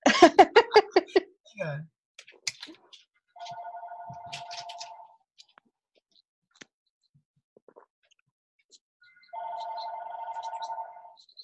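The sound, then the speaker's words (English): A telephone rings twice with an incoming call as somebody rings in to a show, each ring a steady, buzzing mid-pitched tone lasting about two seconds, separated by a long pause. A brief burst of laughter comes just before. “Somebody's ringing in.”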